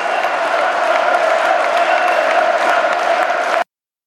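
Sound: crowd cheering and chanting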